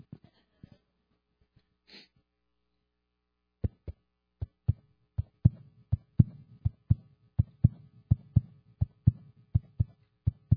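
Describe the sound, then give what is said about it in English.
A fetal heartbeat from a sonogram of a baby in the mother's womb: fast, steady thumping pulses with a soft whooshing undertone, starting after a few quiet seconds and continuing loud to the end, with no talking. “That was the heartbeat that was heard from the sonogram in mother's womb.”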